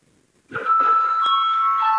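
parliament chamber bell ringing

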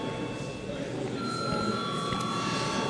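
parliamentary chamber bell ringing

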